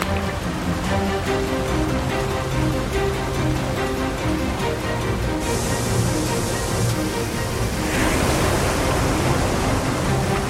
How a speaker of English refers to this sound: That is a serious amount of ice coming around the corner.